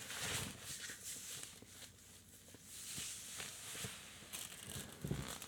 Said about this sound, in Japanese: あー、それとすいません、ちょっと椅子、フットマンって言ったらいいですか、椅子の足を置く用のちょっと大きめの椅子に座ってるので、もしかしたらこう動くとギシギシ言うかもしれませんけど、それは私が椅子の上で動いてる音だと思ってください。